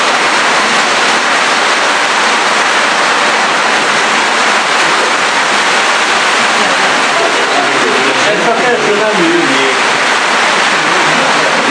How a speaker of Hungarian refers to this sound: Ez nem jég. Ez nem jég, csak nagy, nagy szemekbe esik az eső.